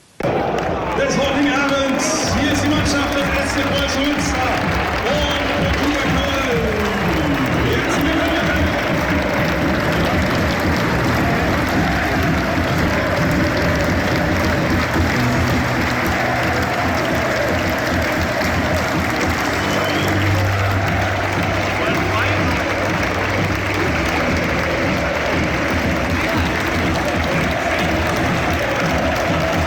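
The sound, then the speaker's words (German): A dense, steady roar of a football stadium crowd at the Preußen-Stadion during a Regionalliga match, with scattered applause and cheering, loud and continuous throughout, with chanting-like swells rising now and then over the mass of voices. “So, hier sind sie, die exklusiven Aufnahmen aus dem Preußen-Stadion. Große Stimmung in der Regionalliga.”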